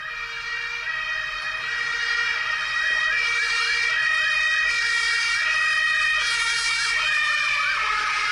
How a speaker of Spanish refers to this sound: ¿Vos decís que la sirena puede ser canción? Sí, mira, tiene en secreto estas sirenas. En este caso puede ser una ambulancia por el tipo de sirena.